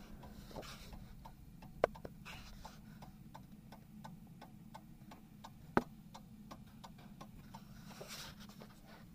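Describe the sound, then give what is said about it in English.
A mechanical clock ticks steadily and quietly at a brisk, even pace, each tick a crisp small click over a low background hum, with a couple of slightly louder clacks along the way. “So now, having described that clock and let you hear the sound of it,”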